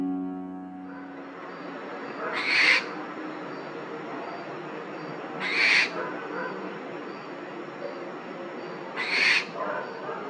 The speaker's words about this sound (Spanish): Lechuza de campanario, de nombre científico Tito Alba o Tito Furcata, orden estrigiformes de la familia Titónide. La lechuza de campanario mide de 35 a 50 centímetros, con la cabeza grande, muestra la cara blanca en forma de corazón.